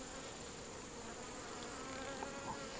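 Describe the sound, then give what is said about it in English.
A steady, dense drone of many honeybee workers buzzing around hives, a continuous hum with faint flickers as individual bees pass, no voices. “And these bees that we're seeing are all worker bees right yes. now?”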